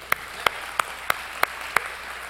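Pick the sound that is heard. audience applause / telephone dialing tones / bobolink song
audience applause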